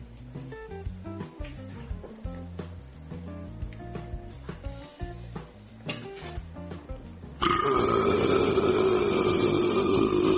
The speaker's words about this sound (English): Did you hear that? I could burp like that too if I had a drink or something other than green beans.